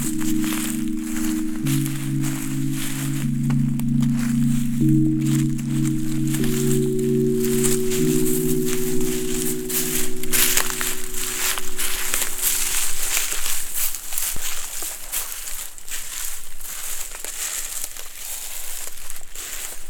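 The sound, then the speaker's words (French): Footsteps crunch and crackle through a carpet of dead leaves and dry wood, a few to about ten centimetres deep. It is a steady run of crisp rustling steps, with a low droning hum underneath for the first two-thirds. “À mes pieds, un tapis de quelques centimètres, voire une dizaine de centimètres de feuilles mortes et de bois sec.”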